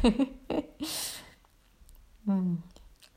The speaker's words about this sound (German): Vielleicht löst sich auch ein Gähner, wie bei mir gerade. Das ist immer ein super Zeichen.